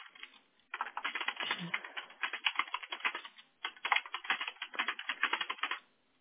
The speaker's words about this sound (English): Sorry if you hear me typing all crazy. Yeah, I can't type like that.